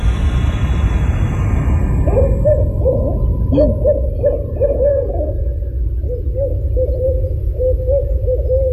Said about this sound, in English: And there are two of them. They're communicating from a distance. It sounds like an owl. Yeah, it sounds like two owls, obviously.